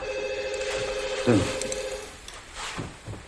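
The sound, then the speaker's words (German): A telephone rings steadily with a sustained electronic tone, then cuts off abruptly partway through; afterward faint voices and background noise follow. “Und dann klingelt schon wieder das Telefon.”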